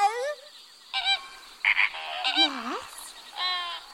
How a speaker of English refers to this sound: Maybe you can hear parrots squawking quietly.